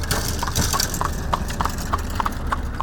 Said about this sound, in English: We're standing on the side of a county road that has a long line of large divots spanning the entire block. And when a car or buggy goes over that broken pavement, it sounds just as bad as it feels.